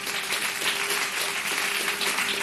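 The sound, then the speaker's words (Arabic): An audience claps steadily in applause for the poet Mohamed Omaima, who wrote a set of new songs being presented. The dense, continuous patter of many hands holds an even level throughout, with a faint steady hum beneath and no voices. “وهي بالمناسبة جميعها للشاعر المتألق محمد أميمة، تصفيقا لمحمد أميمة.”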